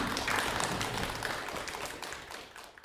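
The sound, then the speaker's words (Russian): Participants of a poetry meeting in the hall of a rehabilitation centre greet each other with applause, a dense, steady wash of many hands clapping that holds fairly loud throughout before easing off slightly toward the end. “Давайте поприветствуем друг друга аплодисментами.”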